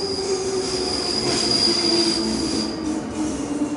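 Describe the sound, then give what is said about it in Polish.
A train rolls steadily along the rails with a continuous rumbling roar and a sustained high-pitched wheel squeal running over the top, loud and unbroken throughout, with no voices. “Jest pociąg bezpośredni.”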